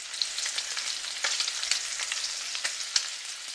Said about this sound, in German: Man geht mit der Stimme runter, bis die Stimmbänder tiefe, knarrende Geräusche erzeugen. Ein bisschen tönt es, wie wenn man Speck anbrät.